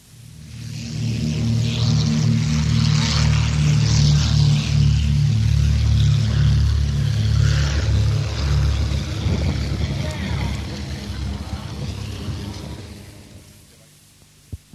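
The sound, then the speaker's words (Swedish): A De Havilland Dragon Rapide biplane taking off at Duxford on 17 June 1984, during an air day themed Rolls Royce on Wheel and Wing: a loud, steady, deep droning piston-engine roar with a throbbing low hum that holds for several seconds, then gradually fades away toward the end. “Först kommer en kort startsekvens med en De Havilland Dragon Repeat.”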